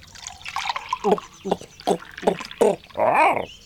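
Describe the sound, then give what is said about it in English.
Someone drinks water in a series of five steady gulps, each swallow distinct and evenly spaced, ending with a brief bubbly gurgle. “I drink water every day,”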